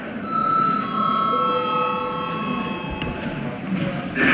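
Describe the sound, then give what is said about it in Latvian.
A bell in the chamber of the Latvian Saeima (parliament) rings steadily for a few seconds to call registration mode at an extraordinary sitting, a sustained, even electric tone with bright overtones, over a soft murmur of background noise. “Lūdzu zvanu, lūdzu reģistrācijas režīmu.”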